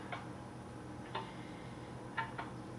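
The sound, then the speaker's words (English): A clock app on a phone ticks softly and steadily, a few crisp clicks roughly a second apart, the last two coming closer together, over a low, quiet background hum with no voices. “I do not have a mantle clock like the one the lovely Melaniac Potu happens to possess, so I have to make do with the next best thing”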